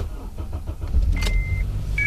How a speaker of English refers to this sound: So I resorted to an overpriced generator, my car.